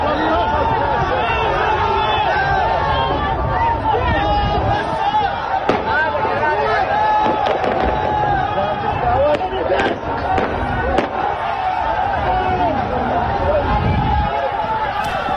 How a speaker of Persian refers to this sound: بنابر گزارش کولبر نیوز، این تیراندازی‌ها به سوی نمازگزاران و معترضان در مسجد مکی زاهدان صورت گرفته است.